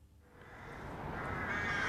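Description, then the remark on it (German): Crows cawing at their nests in the plane trees on Nauwieser Straße in the Nauwieser Viertel, Saarland, their harsh calls mixed into a steady wash of ambient noise that grows slightly louder over a couple of seconds; no one speaks. “steht nicht weit davon unter den Krähennestern in den Platanen in der Nauwieser Straße.”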